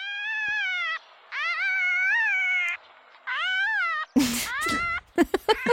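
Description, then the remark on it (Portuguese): A fox calls with three long, wavering, high-pitched wails, followed by a burst of harsh, raspy screeches and short yelps. There is no talking. “Eu ia dizer a minha vizinha de cima, mas eu sei que a resposta é raposa, porque tu disseste-me há pouco.”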